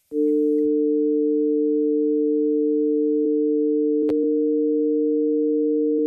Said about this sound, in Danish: Det lyder ganske, ganske gyseligt faktisk. Vi har faktisk et lydeksempel her på, hvordan ulvekvinten er. Vi hører først en ren kvint, og så hører vi en ulvekvint.